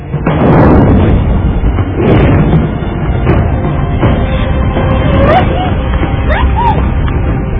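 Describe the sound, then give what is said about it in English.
Loud fireworks explode in a rapid series of booming bursts and pops, dense, with a few rising whistling tones toward the end. “But sparks from nearby fireworks light near the store and set it on fire.”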